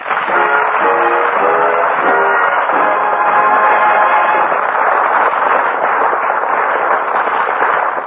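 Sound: passenger train running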